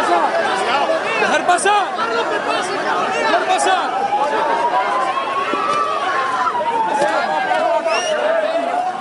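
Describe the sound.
A large, angry crowd of protesters in the town of Paiporta, Valencia, Spain, shouts and yells at the Spanish King and Queen over one another in a dense, continuous roar, some shouting "murderer", with one voice drawn out and wavering above the noise for several seconds.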